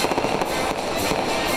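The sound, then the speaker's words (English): Fireworks crackle and burst continuously, a dense, loud barrage of pops and booms filling the short stretch with no voices present. “Oh yeah, and then after you knock that person on your ass, time to celebrate. Some fireworks and music.”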